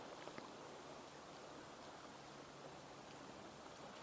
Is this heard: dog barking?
no